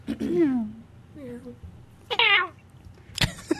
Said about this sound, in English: Wow. I think it was a cat meowing while choking or something.